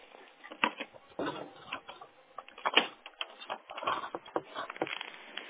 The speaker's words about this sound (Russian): Сейчас, минуточку. Так, сейчас возьму ручку, бумажку.